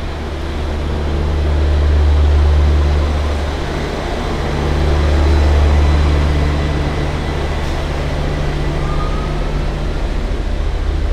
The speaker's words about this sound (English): Sidebar, the other thing about massive semi-trucks moving around the city is the noise. My God.